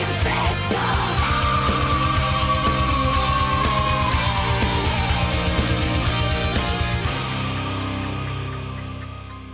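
A piercing, high-pitched vocal shriek is held and slowly slides downward over loud, dense metal with rapid pounding drums and distorted guitars, before the music thins and fades.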